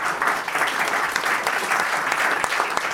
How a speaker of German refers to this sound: Aber es gibt noch mal einen großen Applaus